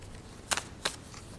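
Two short, crisp rustles of a sheet of paper being picked up and handled, fairly quiet, each a brief crackle spaced about a third of a second apart, with no talking.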